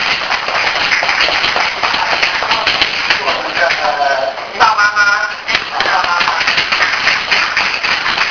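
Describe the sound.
A room full of people claps steadily for several seconds, a dense crackling applause that holds fairly even, with a few voices briefly audible through it midway.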